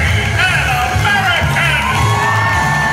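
crowd screaming

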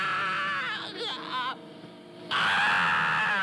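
screams

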